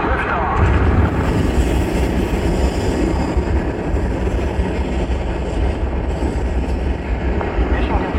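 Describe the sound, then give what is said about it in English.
A massive, continuous rocket-engine roar at the liftoff of the first mission to Mars, loud and rumbling with deep low-end power, holding steady and unbroken for the whole stretch. “We have main engine start.”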